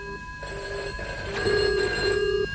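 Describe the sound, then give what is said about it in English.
A telephone rings with bright, steady electronic tones that repeat in short bursts, clear, with no voices over it. “Welcome to the phone-in.”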